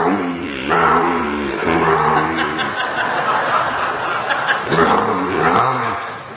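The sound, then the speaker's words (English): A voice mimics the roaring engine of big trucks with loud, gravelly growls that rise and surge for several seconds, briefly dipping before revving up again. “Today these big trucks...”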